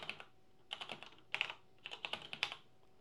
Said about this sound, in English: Get my typing right here.